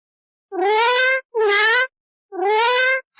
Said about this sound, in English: Oh, what's that? It's a cat.